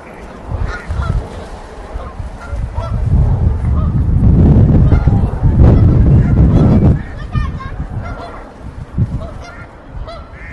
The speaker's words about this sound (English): And now the dog is being told off by the geese.